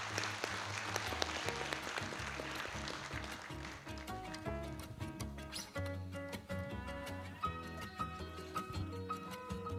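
An audience claps loudly and steadily to welcome a speaker, a dense wash of applause strongest in the first few seconds, while upbeat music with a pulsing bass plays underneath and carries on as the clapping thins.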